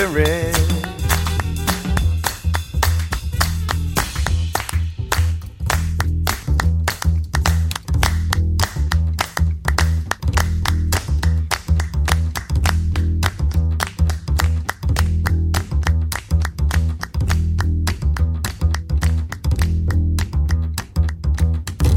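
Steady, rhythmic hand claps keep a brisk beat over a music track with a deep, sustained bass line, the sharp claps cutting through loudly and evenly throughout.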